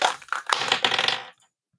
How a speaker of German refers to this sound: dein Thema, ich würfel mal für dich.